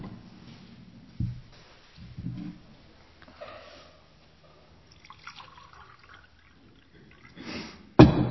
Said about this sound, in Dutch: Ik schenk even nog een glaasje water in, want ik heb dorst.